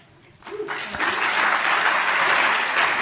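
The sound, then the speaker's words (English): A crowd at a political debate bursts into applause, swelling quickly from quiet into a dense, sustained wash of clapping that stays loud and steady, with a faint voice underneath at the start. “Please hold your applause until the end of the debate.”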